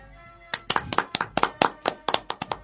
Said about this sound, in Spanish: el aplauso generoso de la mesa y por qué no también.